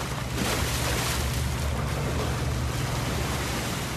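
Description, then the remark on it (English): A steady low engine drone, like a motorboat, runs throughout over a broad wash of water and wind noise from boats on the Chao Phraya River in Bangkok, Thailand, in an area lined with Buddhist temples. There is no speech and the loudness stays fairly constant. “I found Pachawadi by the Chao Phraya River in Bangkok, an area lined with glittering Buddhist temples.”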